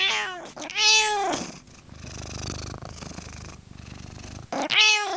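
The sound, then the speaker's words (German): A domestic cat gives two loud meows, one at the start and one at the end, with a soft, steady purr rumbling in between. “Und dass beim Katzenlaufrad Könner am Werk waren, bestätigt der Experte auf Samtpfoten.”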